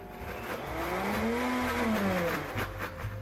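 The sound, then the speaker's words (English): A blender motor whirs loudly for about three seconds, its droning pitch climbing and then sinking back down as it blitzes a thick pasta sauce with about a quarter cup of reserved pasta cooking water added, with no voices over it. “And let's blitz that again.”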